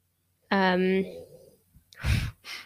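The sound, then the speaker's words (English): A voice imitates snoring: one loud, buzzing, voiced rasp lasting about half a second, then a pause and two breathy, noisy exhale-like puffs. “her snoring is really putting me off.”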